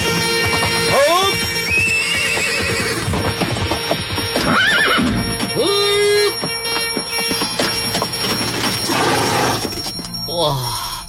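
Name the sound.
horse-drawn carriage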